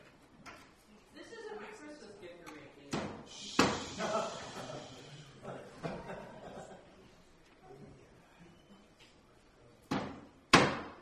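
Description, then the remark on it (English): Several sharp, loud hammer blows drive in the last three nails to make sure they are solid, landing at irregular intervals, a couple of them in quick pairs, with a murmur of voices and shuffling in between. “Because if I can mess up with flames and fire in the hand, I'm bound to mess up with the hammer and nail in the hand.”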